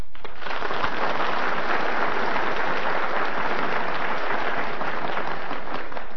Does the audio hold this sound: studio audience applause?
yes